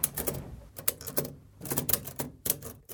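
Keys of an old typewriter, heavy and needing a hard press, being struck in an uneven flurry of sharp, clacking mechanical hits, some in quick clusters, with brief pauses between bursts and no voices.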